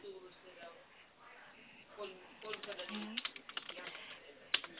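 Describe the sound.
Rapid clicking of a computer keyboard as an order invoice is typed up, quick irregular keystrokes, with a person talking intermittently over the typing.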